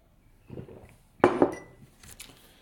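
Teacups clink against each other while Pu'er tea is being drunk: a soft rattle, then two sharp, bright knocks in quick succession, followed by a few faint tinkles as the ceramic settles. No one speaks.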